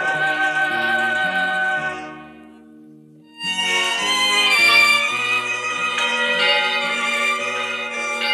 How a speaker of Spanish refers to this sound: En la capital del virreinato, las campanas de la iglesia mayor en la plaza de armas se echaban al vuelo, convocando a la solemne celebración de la Virgen.